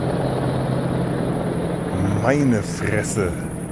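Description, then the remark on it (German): Two very large helicopters fly quite low overhead, a steady, heavy drone rumbling throughout, loud with a constant deep thrum. Partway through, a voice briefly speaks over it. “Auch wirklich zwei riesigen Riesenbrocken von Hubschrauber, die da gerade über mir wegfliegen. Ziemlich tief.”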